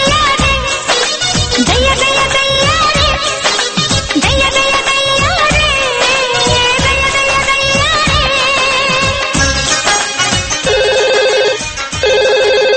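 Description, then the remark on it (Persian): A loud, melodic telephone ringtone of another caller to a programme plays without pause, bright layered tones shifting through a busy tune, then settling into a steady repeating pulse near the end. Nobody speaks. “یه تلفن دیگه داریم.”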